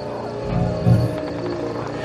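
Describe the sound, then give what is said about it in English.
Wolves letting out low, drawn-out cries that swell briefly near the middle, over a steady background rumble. “I hear wolves.”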